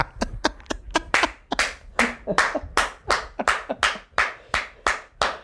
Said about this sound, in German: Da klatscht übrigens der Ministerpräsident des Landes Brandenburg. Des Landes hier am Hafen.